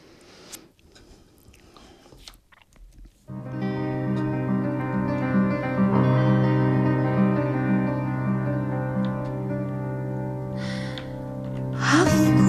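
A few seconds of faint breathy rustling, then a song's instrumental intro swells in with rich, sustained chords that hold steady and fairly loud, brightening slightly at the very end.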